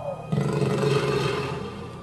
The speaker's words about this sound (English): Two lions.